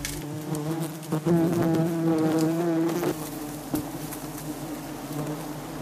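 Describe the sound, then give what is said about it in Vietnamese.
A dense, steady buzzing of many honeybees swarming around a nest in a broken melaleuca tree trunk in a forest, continuous, with a droning hum that wavers slightly in pitch as bees move about. “Ong mật vốn rất thích làm ổ ở những nơi này.”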